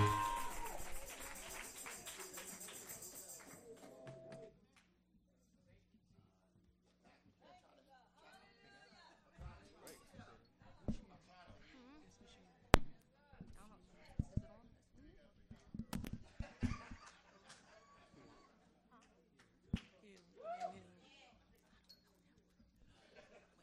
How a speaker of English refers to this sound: Y'all come on, give the Lord a hand clap of praise.